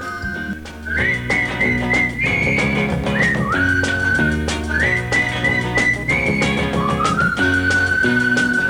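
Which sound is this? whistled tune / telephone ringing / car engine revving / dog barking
whistled tune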